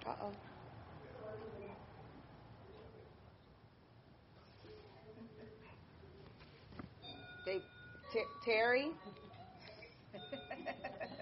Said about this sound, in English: Sorry, I'm zooming in for Virginia, and their chime's going off in the house right now.